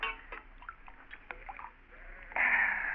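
water gushing

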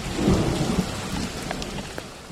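rain shower with thunder

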